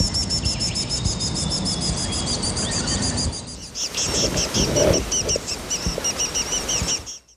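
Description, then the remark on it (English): A fairy wren's rapid, high-pitched alarm trill runs for a few seconds, then a tawny-flanked prinia takes over with sharp, repeated scolding chirps, both birds warning of a cuckoo, loud against a rustling outdoor background. “That first bird was a fairy wren. The second, look, I know I don't need to tell you, was a tawny-flanked prinia.”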